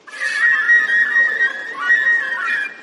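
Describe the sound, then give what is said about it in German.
A bird perched on a computer screen in a counter hall whistles loudly and steadily, loud enough to be heard outside, a shrill, warbling tone held for nearly three seconds with slight wavering pitch, clear with no talking. “begann so laut zu pfeifen, dass es bestimmt bis nach draußen zu hören war.”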